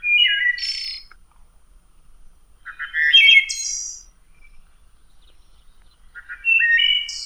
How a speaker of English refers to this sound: The territorial call of the male red-winged blackbird is distinctive. Many people think it sounds like the sound of a rusty gate.